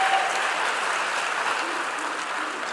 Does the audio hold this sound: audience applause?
yes